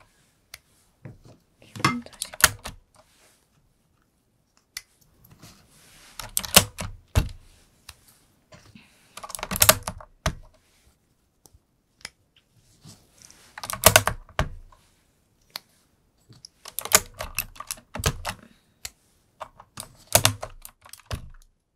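Keycaps being pulled off the third row of a computer keyboard, which do not come off easily: crisp plastic clicks and snaps arriving in irregular clusters with short pauses between them, and no one speaking.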